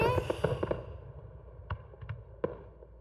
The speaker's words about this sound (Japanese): あ、フィナーレの花火じゃない？ とっても綺麗だ ね。